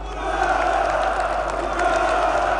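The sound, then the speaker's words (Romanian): A large crowd in the square in front of the Central Committee, now Piața Revoluției (Revolution Square), cheers and chants for Nicolae Ceaușescu's balcony speech in a steady, sustained roar, many voices blending into a dense wall of sound with occasional louder shouts rising above it. “La început, mulțimea aflată în piața din fața Comitetului Central, acum Piața Revoluției, l-a aclamat pe Ceaușescu, dar la scurt timp au început să se audă huiduieli.”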